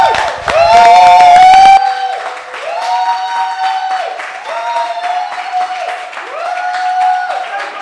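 An audience breaks into sustained applause with whoops and cheering voices rising over the clapping. It starts loudest, then eases slightly but keeps going steadily to the end.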